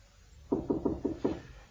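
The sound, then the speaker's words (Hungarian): Five firm knocks on a door in a quick, slightly uneven rhythm, clear, with no one speaking. “Kopognak, mester.”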